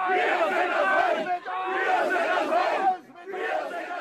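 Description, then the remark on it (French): About a hundred hostile protesters in Klausnitz, Saxony, greeting a bus of refugees, shout loudly and angrily in unison, a dense wall of raised voices that surges in three bursts with brief dips between them. “Jeudi dernier à Klausnitz, en Saxe, un bus de réfugiés a été accueilli par une centaine de manifestants hostiles, hurlant.”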